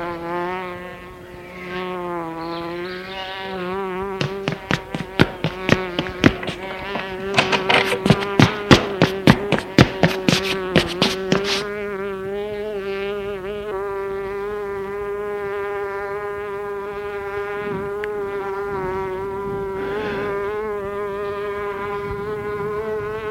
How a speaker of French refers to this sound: Tout à coup, on entend la mouche qui se trouve dans la cuisine. Mouche ! La mouche ! La mouche !